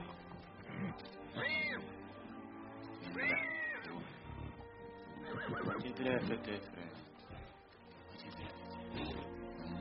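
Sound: horse neighing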